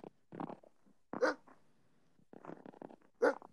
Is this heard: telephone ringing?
no